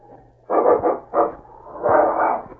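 animal, dog barking

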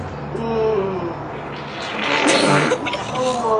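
human body sound, loud fart

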